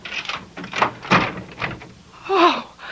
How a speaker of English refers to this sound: We got a chain lock, lady. Just open the door a couple inches. You can see my badge.